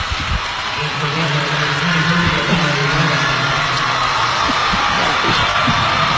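A basketball arena crowd roars continuously for the Butler team during a free throw by Wheeler, a dense, steady wash of voices that stays loud for the full six seconds, with a low droning hum running underneath.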